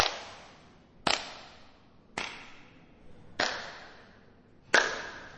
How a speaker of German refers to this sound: Die Brücke, auf der wir uns befinden, ist unmittelbar unter einer Kuppel. Man hört auch, wenn man redet, es ist beinahe wie in der Kirche, es hört sich ganz anders an. Klatsch ich mal.